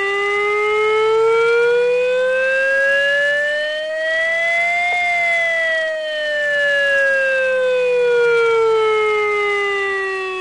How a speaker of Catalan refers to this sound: Està previst que a Flix i a Tortosa el simulacre s'iniciï a les 10 i 40 minuts del matí. A Flix sonaran les sirenes instal·lades al turó del Castell Vell i a la punta de Canó i ho faran d'aquesta manera.